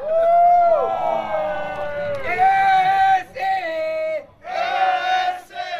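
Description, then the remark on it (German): Football fans in the fan stand cheer and chant together at a SV Ramlingen-Elershausen tournament where the club's new women's team plays a friendly match, a loud, sustained roar of many voices with sung pitches rising and falling, briefly dipping twice before swelling again. “Jubel in der Fankurve.”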